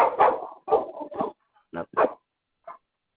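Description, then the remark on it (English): A dog barks in a quick series of sharp woofs, with a couple of short gaps and one final softer yip near the end; no talking alongside. “I'm sorry, my dog's leaving hell.”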